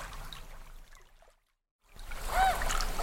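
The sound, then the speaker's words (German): Water laps and sloshes against a small rocking boat in two stretches split by a short silence; the second swell is louder, with a brief high creak riding over it. “Und ich bin so glücklich, dir so gut tun zu dürfen auf unserem kleinen schaukelnden Boot.”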